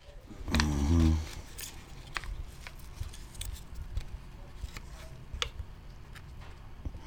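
A brief low humming tone sounds at the start, then soft paper crinkles and crisp little ticks scatter irregularly as a folded red paper packet holding an off-white powder, a heroin sample, is opened, quiet against a faint background.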